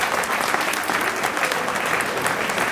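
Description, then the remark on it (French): Sustained applause from an audience, a dense, steady wash of many hands clapping at even loudness throughout, with no voices standing out above it. “Donc là, encore une fois, je pense qu'on peut s'applaudir parce que c'est grâce à nous qu'il recule.”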